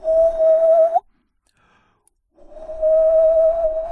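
A person whistles through the mouth, two long, steady notes at the same pitch, separated by a brief pause. The whistling is fairly loud, with no talking.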